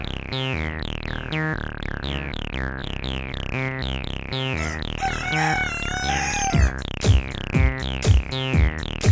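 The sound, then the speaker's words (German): A chicken clucks in a quick, steady series of loud bursts, with a warbling crow rising briefly in the middle and heavier thumping clucks near the end. No one speaks. “Du bist ein Huhn!”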